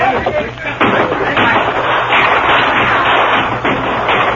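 A loud, dense barrage of gunfire rattles on without pause, shots blurring into a chaotic battle din with indistinct shouting voices mixed underneath, as Apaches attack a stockade and a wagon is hurriedly pushed inside and the gates closed.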